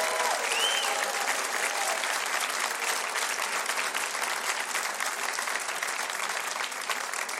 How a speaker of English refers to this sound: And right now, let's give this great band, …, …, a big round of applause.